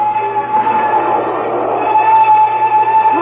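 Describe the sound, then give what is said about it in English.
A train gaining momentum, in the story Mad About Music, rumbles steadily along with a whining, metallic hum, the clatter growing slightly louder near the end as it picks up speed. No voices are heard. “The train gains momentum.”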